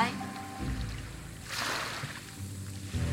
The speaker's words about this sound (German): Der Klang der Wellen ist viel friedlicher als jedes andere Geräusch.